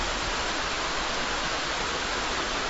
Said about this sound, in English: That is the sound of a rushing river, so crystal clear you can look down and see the sandy bottom. I'm standing on a bridge of great historical importance. I'm in eastern Switzerland.